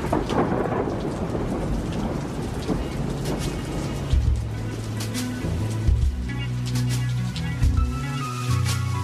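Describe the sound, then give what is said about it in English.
Steady rain hisses throughout while deep thunder rumbles roll underneath, and low sustained musical tones gradually rise beneath the storm in the second half. No one speaks. “Can you not hear the quiet storm either?”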